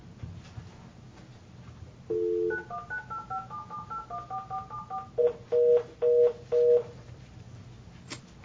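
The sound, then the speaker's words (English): A rapid run of telephone keypad dialing tones as someone tries to call a person back and dials the number wrong: about a dozen short beeps followed by four slower, longer ones, clear over a low, steady background rumble. “Dialed it wrong.”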